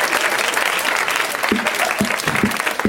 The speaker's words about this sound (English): It's like you won a bonus round or something. Yes. We just gave you an applause for knowing a movie you've been in.